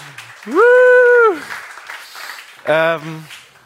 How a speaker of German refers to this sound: Ja, Applaus für den Samu, der ist leider noch nicht da.